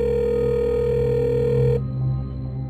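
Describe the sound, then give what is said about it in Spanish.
A mobile phone rings out with a steady electronic tone, loud and continuous for a couple of seconds, then cuts off abruptly, leaving a low hum with no one answering. “El celular de ella timbraba, pero no contestaba a nadie.”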